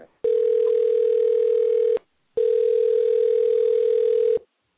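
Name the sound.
telephone dial tone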